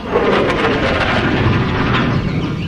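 A loud, steady roar of an airplane flying fills the whole stretch, a dense rumbling wash with no pauses or distinct beats and no one speaking.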